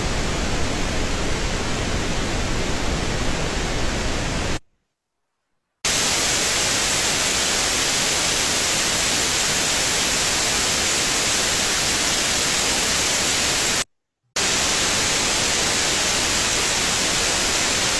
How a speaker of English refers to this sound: And I've got the next thing up is white noise, just to see what it does with, the comparison.